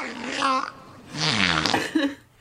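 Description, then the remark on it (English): A whale's vocalization: three drawn-out, warbling moans that bend up and down in pitch, the middle one longest, heard clearly with no talking over them. “Boy, you're a dirty, dirty whale.”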